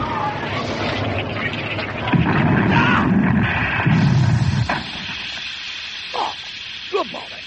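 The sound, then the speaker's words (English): An old banger car, recorded for sound effects, rumbles and roars in two heavy noisy surges, then slams into a wall with a sharp impact, followed by a few brief high squeaks. “We didn't expect the bonus of the car hitting the wall.”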